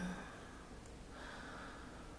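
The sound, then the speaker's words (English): A person breathes deeply to relax, a slow, steady breath drawn in and let out. It is airy and fills the short moment with a soft continuous rush and no talking. “Breathing deeply.”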